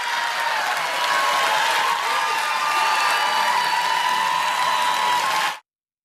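After an awkward pause following a speaker's line, a large audience breaks into sustained, loud applause with a few scattered cheers mixed in, the clapping holding steady for several seconds before cutting off abruptly.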